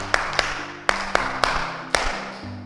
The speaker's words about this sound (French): Est-ce que vous pouvez d'abord applaudir pour vous? Applaudissons.